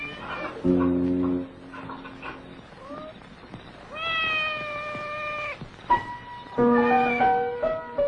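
A cat meows repeatedly, several drawn-out, wavering cries in a row, fairly loud, with short pauses between them and no talking.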